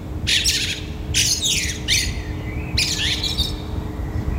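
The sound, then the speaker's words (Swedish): Three bursts of harsh, chattering Eurasian blackbird calls, fairly loud, separated by short pauses, over a steady low rumble and faint hum, heard in the morning. “det här mellanljudet som vi hörde innan den här koltrasten och efter blåmesen”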